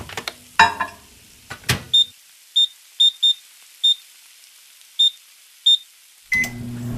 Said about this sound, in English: 3 hours. Wow. Who's got that kind of time? This is a job for my microwave.